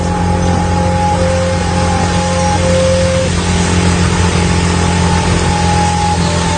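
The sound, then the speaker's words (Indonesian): A motorcycle engine accelerates with a loud, continuous droning hum, its tones holding steady with a slight shift in pitch midway, as it rides through the cold night wind on the way to Cimahi. No voices are heard. “Cap gas motor menerpa angin malam yang dingin saat itu, ditambah bajuku yang berkeringat.”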